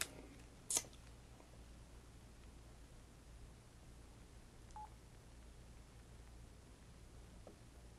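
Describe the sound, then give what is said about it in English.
A few short, quiet phone beeps sound over a steady low hum: a sharp blip near the start and a fainter tone midway, with no one talking. “Probably everybody's phone, but mine is off.”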